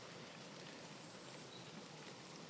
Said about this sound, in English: It's raining. Straight down, rain, no wind.